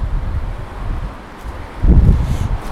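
Gusty wind buffets the microphone outdoors on a windy day as someone takes a plastic bag to the bin, a continuous low rumble that surges louder near the end, with faint rustling underneath and no talking.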